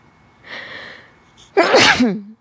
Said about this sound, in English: So, I'm going to sneeze. I apologize.